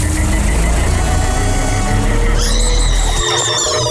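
The Haunted Bus Sounder for 92.9 The Bull's Haunted Bus to Mid-Valley Auto's Scaregrounds in Kennewick: a heavy engine rumbles at idle with a steady low drone, then near the end an eerie warbling, wavering tone rises over it as the rumble cuts out.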